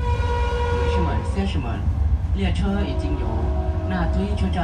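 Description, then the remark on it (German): A steady low rumble with sustained tonal hums of a train on the new railway in Laos, continuing evenly throughout while a voice talks over it. “Der Zug endet im Norden von Laos in Butuan, einer ehemaligen Casino-Stadt an der chinesischen Grenze.”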